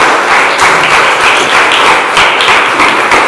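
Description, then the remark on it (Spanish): Loud, sustained applause from an audience during a sermon, given for the Lord, a dense wash of many hands clapping steadily with no pauses, swelling slightly in places and carrying on throughout without any voices. “Denle un aplauso, Señor, gigante, por favor.”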